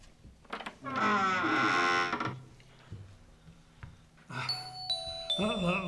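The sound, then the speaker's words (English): A doorbell rings with a loud two-tone chime, followed after a pause by another bright, ringing tone. Voices murmur faintly underneath between the chimes. “Would you like me to answer the door?”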